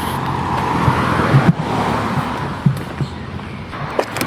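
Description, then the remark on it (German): A car being unlocked and its door opened outdoors: a few sharp clicks and a dull clunk, with a steady rush of street noise behind them and no talking. “Zack, Auto auf.”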